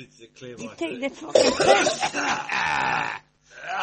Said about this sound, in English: She works in one of those fucking Aberdeen smoking, fish smoking plants. Welcome to the 2015 World Coughing Championship. We're in with the coughing.